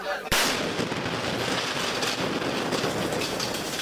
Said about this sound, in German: Plötzlich schlägt eine Rakete ein. Der Moment der Explosion ist in einem Video zu sehen.